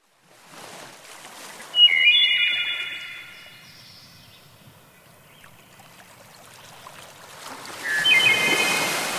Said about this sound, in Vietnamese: Khi gió lên, nàng bắt đầu chơi trò giỡn sóng. Chiếc đuôi cá của nàng cứ quẩy liên hồi, chập chờn trên những con sóng tung bọt trắng xóa.